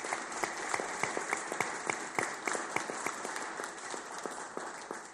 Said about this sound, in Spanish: y yo pido un aplauso para nuestra fuerza.